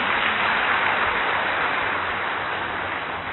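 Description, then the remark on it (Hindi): An audience claps for themselves after raising their hands for having conquered their anger, a dense, steady roar of applause that holds at an even loudness for several seconds, with no voices over it. “अभी अभी ताली बजा दो अपने लिए।”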